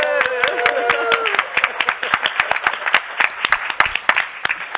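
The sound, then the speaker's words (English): A crowd at an ICANN meeting applauds steadily as a greeting for the accountability chairs, dense overlapping claps forming a loud, continuous patter, with a few whoops or cheers rising over the opening moment before the clapping carries on alone. “I have promised a rock star greeting of the accountability chairs because they have been hardworking and really...”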